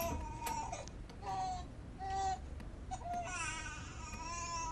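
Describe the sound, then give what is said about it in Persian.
An infant cries in short, wailing bursts with brief pauses between them, fairly loud, over a low, steady background rumble. “صبر کن عزیزم، صبر کن عزیزم، گریه نکن.”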